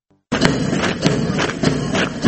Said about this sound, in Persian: صدای قدم‌هایی است که برای تمرینات نظامی برداشته می‌شود.